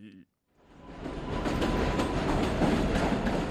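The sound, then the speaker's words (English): An elevated subway train at the 161st Street station in the South Bronx, New York, where Yankee Stadium stands, rumbles in from near silence, its broad roar rising quickly and holding loud and steady with faint rhythmic clatter, after a brief snippet of something else at the very start. “The busy street below the 161st Street elevated subway station is 18 kilometers and a world away from the glittering skyscrapers of downtown Manhattan.”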